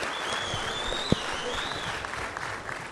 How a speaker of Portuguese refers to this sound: Em seguida, nós daremos a palavra à nobre senadora Fátima Bezerra, que também está aqui conosco. Eu peço uma salva de palmas para ela.